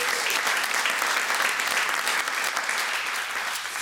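Sustained applause from an audience welcoming Formula 2 driver Laurens van Hoepen, a dense, steady wash of many hands clapping at a fairly loud level throughout, with no distinct voices standing out.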